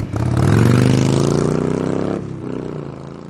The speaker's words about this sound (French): J'aime bien écouter le bruit de la moto.